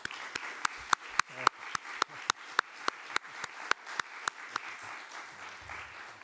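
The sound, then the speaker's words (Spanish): Steady applause for the producer and director presenting a film competing in the official section, with sharp, evenly spaced claps standing out over a softer wash of background clapping, continuing for several seconds without any talking. “La película compite en sección oficial y os pido antes de empezar un fuerte aplauso para ellos.”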